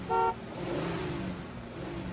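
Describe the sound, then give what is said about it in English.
A single short, loud honk like a car horn, made by a voice, sounds at the very start, followed by a steady low background rumble. “I can make a noise like a car. Honk, honk, honk.”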